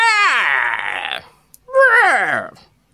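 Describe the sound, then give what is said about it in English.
A voice imitates the screech of an owl struck by a rapier, with two loud, strained cries that slide downward in pitch, the first long and the second shorter after a brief pause. “And the owl screeches.”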